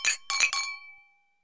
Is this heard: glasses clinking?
yes